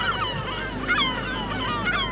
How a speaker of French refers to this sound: Il fait froid, le ciel est gris. Les mouettes volent sur le ciel nuageux et passent sur les galets et sirènes.